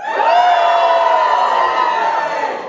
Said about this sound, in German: Und ich dachte mir, wir können das ja zu Anfang mal probieren, dass wir alle einmal jubeln für den Herrn. Schaffen wir das auf drei alle mal zu jubeln, so richtig schön jubeln. Also eins, zwei, drei.